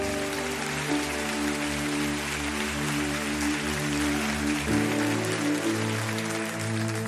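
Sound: audience applauding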